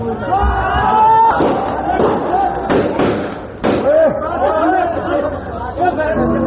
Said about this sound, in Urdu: جو لوگ فائرنگ کرتے ہیں ہم انہیں ہدایت کرتے ہیں کہ یہ اپنی فائرنگ سے باز آئیں، یہ بہت غلط طریقہ ہے. آپ لوگ فائرنگ بند کریں.